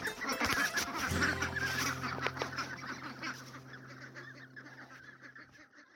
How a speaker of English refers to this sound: These are my ducks.